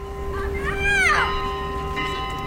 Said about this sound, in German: Hell klingt das Glockenspiel der St. Thaddäuskirche. Mühelos übertönt es das Schreien der Kinder auf dem nahen Spielplatz.